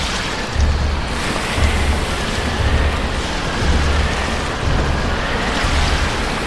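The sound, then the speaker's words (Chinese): Stormy sea battering a ship, with wind roaring steadily and heavy waves crashing in rhythmic surges about once a second, a dense, loud wash of noise with no voices. “他们的船被狂风巨浪吹打得千疮百孔，几乎也破裂了。”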